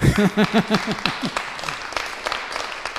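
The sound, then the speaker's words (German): An audience breaks into applause, starting with a short burst of voices and rhythmic vocal sounds, then scattered hand claps that thin out and fade over a few seconds. “Jetzt könnt ihr mir klatschen, genau.”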